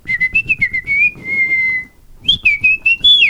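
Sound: whistled speech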